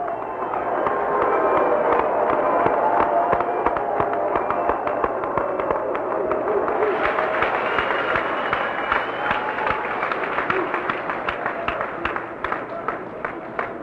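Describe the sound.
Sustained audience applause, dense overlapping clapping that runs steadily for about fourteen seconds, swelling slightly midway with murmuring voices and occasional cheers mixed in.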